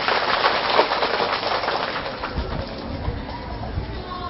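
An audience of children, asked by their teacher, breaks into loud, sustained applause, a dense crackle of many hands clapping at once that holds steady for several seconds before thinning slightly toward the end.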